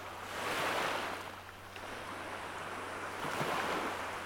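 Gentle surf rolls onto a beach in broad, hissing swells that rise and fall twice, with a steady low rumble of ocean underneath and no voices.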